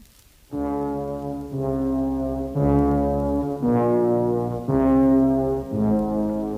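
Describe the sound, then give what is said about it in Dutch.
A loud rush of steam escaping through a cooker's safety valve, with a deep, horn-like tone that surges in roughly one-second pulses for several seconds. No one speaks. “Dit is je veiligheidsklep dus? Ja. Maar doe maar niet veel, want anders kan ik straks niet meer koken.”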